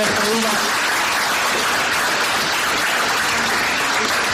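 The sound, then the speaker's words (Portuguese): Sustained audience applause for a group of students fills the whole stretch, a dense, steady wash of many hands clapping at once, fairly loud, with faint voices mixed into the crowd noise. “Un aplauso para os vosos compañeros.”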